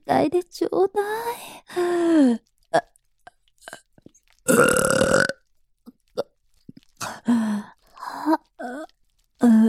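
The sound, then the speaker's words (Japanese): A single loud, drawn-out burp after drinking milk bursts out in the middle, surrounded by short breathy vocal sounds and murmured voicing before and after. “出た。どう？ママのミルクゲップ。”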